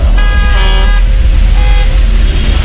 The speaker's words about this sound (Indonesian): Sampai mobil di belakangku membunyikan klaksonnya.